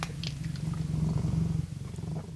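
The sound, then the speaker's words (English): A cat named Morrissey purrs steadily, a low continuous rumble with a gentle pulsing rhythm and no voices over it, at radio station CFRC 101.9 FM in Kingston. “and you're with me and my cat, Morrissey, the good-looking and pleasant to be around.”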